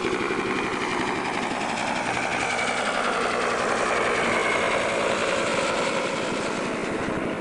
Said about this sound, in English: That's one of the many, many Huey helicopters around here. Here comes another one. We just had a whole bunch of helicopters fly over, about nine of them.